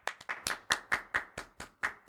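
A clap track in a song: a quick run of about ten sharp hand claps in a fairly steady rhythm, each a crisp slap with a short tail, with no voices or other sounds alongside.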